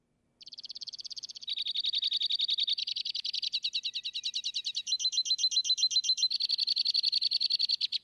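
A bird sings a long, continuous song of rapid, ringing trills, shifting through several pitch segments in quick succession, with no other sounds around it.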